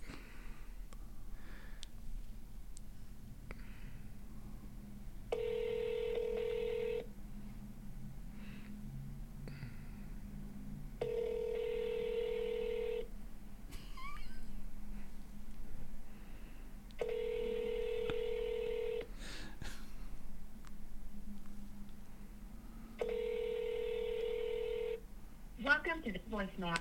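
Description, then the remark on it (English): An outgoing phone call to an uncle over a speaker: a steady line tone sounds in four evenly spaced bursts, each about two seconds long, separated by quieter gaps with faint background noise. “It's not even ringing.”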